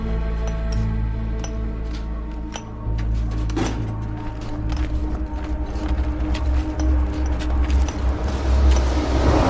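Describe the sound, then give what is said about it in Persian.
A heavy truck engine rumbles steadily and grows louder as the truck approaches, heading toward a mine, with clattering knocks and rattles over the low drone. “حاتم با کامیون منوچهر میاد سمت معدن.”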